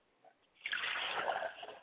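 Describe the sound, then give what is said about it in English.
After a brief quiet moment, water is poured onto fertile ground as a libation, making a steady, hissing splatter that lasts just over a second and then tapers slightly. No one speaks. “I pour water to ground, so that as it falls upon the fertile ground, it will take root and then spring up and grow.”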